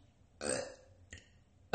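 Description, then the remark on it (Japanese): A loud, drawn-out burp in a bathroom rumbles out with a slightly echoing tail, followed by a short smaller burp and the start of another at the very end. “結構響いたのかな、ゲップ音。”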